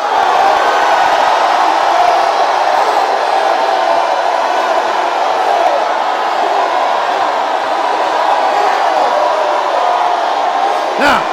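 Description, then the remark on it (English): A large crowd shouts and cheers continuously, a dense, loud roar of many overlapping voices with whoops rising above it, sustained without a break for the whole stretch. “See, you favor his righteous cause, but you're not shouting enough. Shout a little more.”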